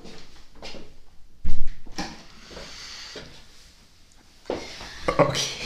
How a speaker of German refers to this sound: Ich mache mal die Tür vielleicht auch.